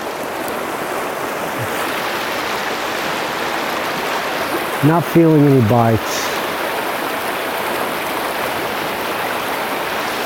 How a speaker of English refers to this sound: But just listen to the sound of that river.